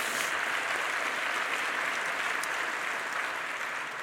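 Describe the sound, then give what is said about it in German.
Steady applause from an audience, a dense, even wash of many hands clapping at a constant level for several seconds with no voices on top. “Jetzt traut ihr euch nicht mehr zu klatschen.”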